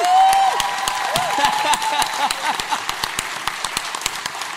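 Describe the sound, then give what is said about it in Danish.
An audience applauds steadily for a guest seated among them who appeared in the scene just shown, many hands clapping in a dense, continuous patter, with a brief high whistle near the start. “Giv ham en hånd.”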